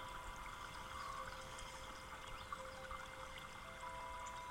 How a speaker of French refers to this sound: L'eau du ruisseau qui s'écoule.